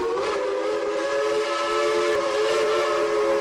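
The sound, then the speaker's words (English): A train whistle blows one long, steady blast that holds for several seconds, loud, with rich layered tones and no voices. “Eventually came the train and the ferry, connecting Gloucester to a bigger world beyond.”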